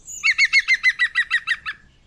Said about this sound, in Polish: Dzięcioła zielonego często można usłyszeć, nawet jeśli go nie widać. W niektórych częściach kraju dźwięk wydawanego przez niego głosu, który przypomina donośny śmiech, nadał mu angielską nazwę yaffle.